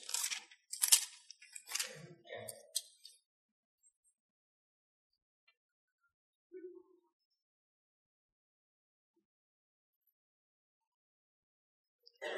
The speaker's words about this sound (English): I got to tell you, it's nice to hear Bible pages turning.